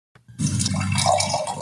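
Coffee pours steadily into a cup for just over a second, played as a radio key-up sound: a continuous splashing gurgle that starts abruptly after a brief click, with no voices.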